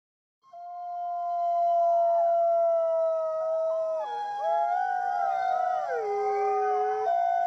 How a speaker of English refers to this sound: We heard the wolves answering us back. Through the woods, across the air, we could hear the collective howls in response to our own.